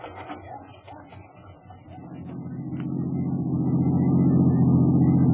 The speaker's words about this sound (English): In a rented car, I drove back to the Anderson address, parked across the street, and watched.